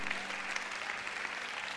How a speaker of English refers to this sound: Come on, give the Lord a hand clap of praise today. Yeah.